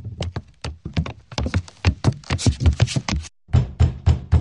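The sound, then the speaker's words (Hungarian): Someone locked inside a room knocks rapidly and insistently on the door, trying to get out: a dense run of sharp, hollow thumps in uneven bursts, loud, breaking off briefly before pounding again. No voices. “De hallgasd, valaki ki akar jutni.”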